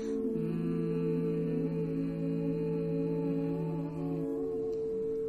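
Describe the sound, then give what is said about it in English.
A person hums a low, steady tone during a breathing exercise, held for about four seconds at an even volume, then it fades out. No one speaks. “Humming, activating that vibration to further clear.”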